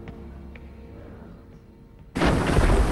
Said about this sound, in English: The ship crunches its way slowly through the ice in the darkness.